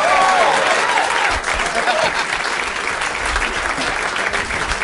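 A large audience bursts into sustained applause as guests Paul F. Tompkins, John Hamm and Tom Sharpling are welcomed, with whoops and shouted cheers rising above the clapping throughout, loud, easing slightly toward the end.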